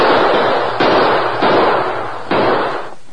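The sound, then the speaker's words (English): Four loud gunshots fired at a man fleeing on horseback toward town ring out at uneven intervals, each a sharp crack trailing into a long, noisy decay that blurs into the next. No voices are heard. “Well, don't talk about it. Shoot him.”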